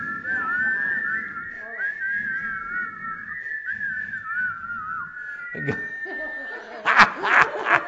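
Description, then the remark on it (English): A church audience in the Kootenays whistles together in a sustained, wavering tone that runs for several seconds, with scattered chuckles and snickers breaking in, then a burst of louder laughter near the end. “We might be the only church in the Kootenays whistling today.”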